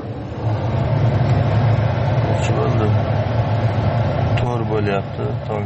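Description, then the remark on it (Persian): A steady, low rumble of car engines idling in a queue to buy natural gas in the Yaziyavan area of Fergana region, Uzbekistan, at 4 a.m., continuous, with faint indistinct voices briefly rising near the end. “منه این نوبتی ماشین ها برای خریدن گاز طبیعی است.”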